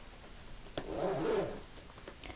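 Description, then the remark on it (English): A tent zipper is pulled shut in one steady, raspy stroke lasting under a second, moderately loud, during a thunderstorm, with quiet background before and after and no voices. “All right, you can sleep in my tent. Make sure to zipper it shut behind you, dear.”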